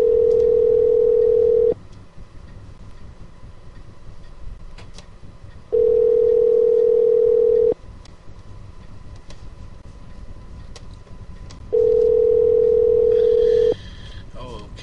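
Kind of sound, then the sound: signal or alarm, phone call ringing unanswered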